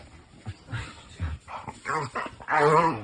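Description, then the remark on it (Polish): A mixed-breed dog lets out a series of soft, contented whines and moans, several short groaning sounds building to a longer, louder drawn-out whine at the end, as it does when it feels good. “A tak właśnie jęczy też. Jeżeli jest mu dobrze.”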